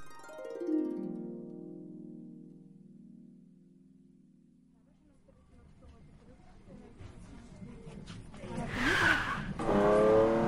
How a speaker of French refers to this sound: fais gaffe. C'est la nouvelle Porsche